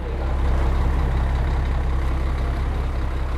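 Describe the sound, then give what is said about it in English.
Bus station ambience with bus air brakes: a heavy diesel engine rumbles with a steady, broad hiss of air and traffic noise, holding an even loudness throughout with no voices. “Meanwhile, at the bus station, everyone has had a free meal.”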